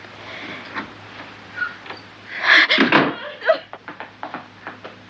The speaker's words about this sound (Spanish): Michael la mira de arriba abajo y le cierra la puerta en la cara.